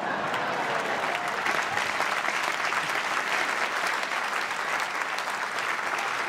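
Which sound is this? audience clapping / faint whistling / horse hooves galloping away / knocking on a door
audience clapping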